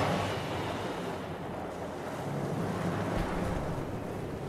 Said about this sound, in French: Non, mais c'est la musique qui est comme ça. Tu l'entends, la mer, à la fin.